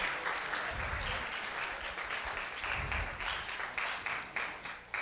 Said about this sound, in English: Let us give God a hand clap for that message of resurrection and power.